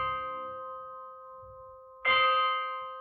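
Orchestral bells toll slowly for midnight, 12 bells in the piece, a ringing stroke fading out before a second loud strike at the end, each note sustaining with a bright metallic shimmer and no voices.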